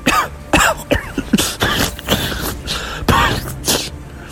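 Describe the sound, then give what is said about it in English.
A string of harsh, wet-sounding coughs and fairly loud sputters in uneven bursts with short gasps between them, as a girl in a boat coughs up water after a wave pours over the side and drenches her. No one speaks. “coughed and sputtered water.”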